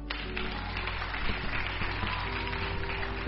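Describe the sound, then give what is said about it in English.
An audience claps steadily for a few seconds, a dense crackle of many hands over a sustained low droning tone, with no voices standing out. “If you know this good news, you will have been clapping more than this.”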